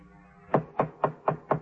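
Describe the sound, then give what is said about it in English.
Five firm knocks on a door on Gorell's floor of the Prince Hotel, evenly spaced, each a short resonant thud in a steady rhythm, with no voices. “I got to Gorell's floor, and when the sergeant was a few steps behind me, knocked on the door.”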